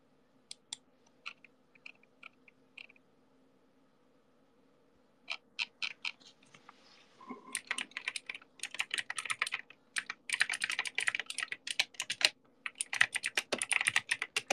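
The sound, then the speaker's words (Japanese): Rapid typing on a computer keyboard to send an urgent reply to a message, starting with a few sparse clicks, then building into a dense, continuous flurry of keystrokes over a low background hum, with no one speaking. “すいません、今ね、ちょっと急いで返せなきゃいけない連絡が来たので、ちょっとキーボード失礼いたしました。”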